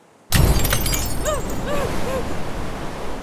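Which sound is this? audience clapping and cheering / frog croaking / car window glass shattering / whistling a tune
car window glass shattering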